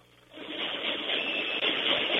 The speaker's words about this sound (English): Ah, the sound of stomping on aluminum in the evening.